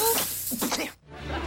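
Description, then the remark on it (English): A steady aerosol spray hisses for about a second, then cuts off sharply, leaving a low rumble behind: Inspector Gadget's aerosol finger spraying all over his face. “His aerosol finger sprays all over his face.”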